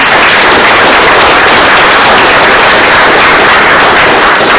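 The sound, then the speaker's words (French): A crowd at an event at a golf club applauds a writer steadily, a dense, loud wash of many hands clapping at once that holds at an even level for several seconds with no voices standing out. “Alors, on va l'applaudir.”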